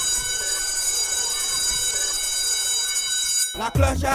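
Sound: school bell ringing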